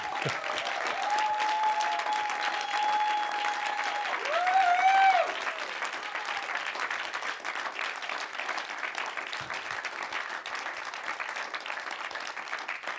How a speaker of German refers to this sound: Toll. Nochmal ein Applaus.